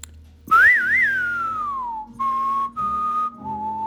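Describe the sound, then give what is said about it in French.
A clear whistled melody like a western film theme: a warbling phrase slides down into a long held note, then several shorter sustained notes follow over a soft, steady low accompaniment. “Évidemment, un des plus beaux sifflets en Amérique.”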